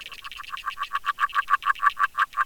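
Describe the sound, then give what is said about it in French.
An agile frog calls underwater in a pond at the Plaine des Morts, recorded by hydrophone from 3 a.m. in late January in mild weather: a rapid, even series of short croaking pulses, about six per second, steady, with a muffled, watery quality and no voices. “En cette fin de janvier, avec une température relativement douce, c'est une grenouille agile qui chante sous l'eau à partir de 3h du matin.”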